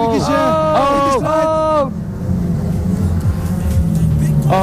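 Loud racing car engines scream past, whining up in pitch through several quick gear changes, then fade into a low rumbling drone before another engine starts revving at the end.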